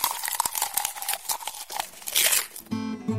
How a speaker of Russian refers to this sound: Хрум-хрум-хрум, чок-чок-чок, я книжный червячок. Хрум-хрум-хрум, чок-чок-чок, я книжный червячок.